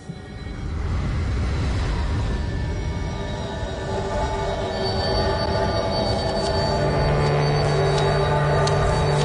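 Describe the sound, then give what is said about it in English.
A train rumbles steadily past, its wheels grinding and squealing on the rails in sustained high-pitched tones over a dense low roar, with no one speaking. “Train.”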